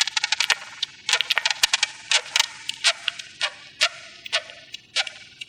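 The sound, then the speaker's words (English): Dry, rapid clicks and brief scratchy chirps made by beetles come in irregular bursts, some fast clusters and some spaced out, sharp and fairly crisp against a soft hiss, with no talking. “After listening for a few minutes, suddenly I began to hear these little chirping and clicking noises, which are the distinctive sounds that they make.”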